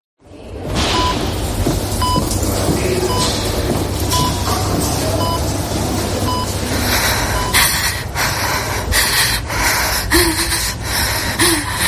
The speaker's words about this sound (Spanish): respira, respira, respira, cada vez de forma más acelerada, mientras intenta, bueno, ella intenta calmarse, ¿no? Y mantener esa respiración como debe, como le han enseñado.